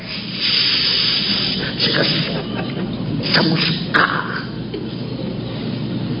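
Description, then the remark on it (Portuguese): A hot branding iron, taken from the fire and bearing the name of its owner, rancher Evandro, sears a young bull's hide with a loud, continuous sizzling hiss that lasts throughout, swelling in a few brief harsher bursts along the way. “Aí o garrote fica lá, aí ele pega, tira do fogo na hora certa e queima o garrote.”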